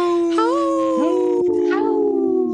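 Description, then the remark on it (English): Continuous, loud howling with overlapping drawn-out tones that slide up in pitch now and then, filling the whole stretch without a break. “Howl.”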